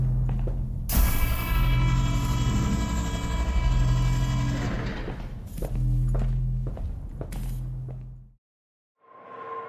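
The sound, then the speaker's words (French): A subway train runs loud, a steady rumble with a whining electric hum and intermittent clattering thumps, then it cuts off briefly before a short tonal chime. “Capitaine dans le métro.”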